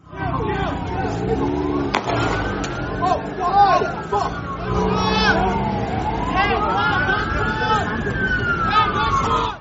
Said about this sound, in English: So he was shot at by the police. He put his hands up saying, "Don't shoot, don't shoot," and others were saying, "Don't shoot." The following audio is from that very moment. It contains sounds of gunfire as police fire at Ms. Battison's client.